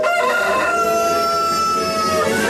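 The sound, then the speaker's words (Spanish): A rooster crows loudly, one sustained cock-a-doodle-doo with strong harmonic tones stretching over a couple of seconds, heard on the radio station Radioactiva. No voices present. “El gallo se oye por Radioactiva.”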